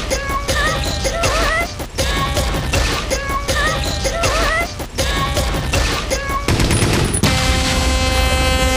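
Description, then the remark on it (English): Rapid bursts of gunshots crackle loudly through a driving, energetic music track, a Hockey Night in Canada theme entry by Logan Obey of Aurora, Ontario, giving way near the end to a long, blaring air horn blast. “Is most appropriate is the gunshots before the air horn.”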